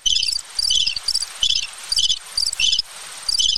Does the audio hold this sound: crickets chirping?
yes